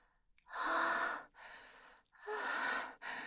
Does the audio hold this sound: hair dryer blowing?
no